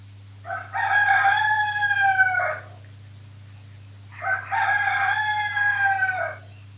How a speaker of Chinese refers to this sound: 公鸡叫，太阳笑，太阳笑，天亮了。